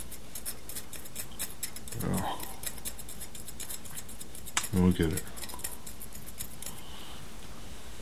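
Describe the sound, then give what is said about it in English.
Scissors snip through a little piece of tape in a quick run of crisp clicks that continue throughout, with two brief spoken remarks breaking in partway. “I'll need a little piece of that tape there. It is not a pretty cut.”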